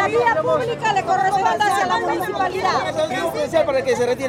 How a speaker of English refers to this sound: A phalanx of officers in riot gear stare on from across the street as the crowd shouts back.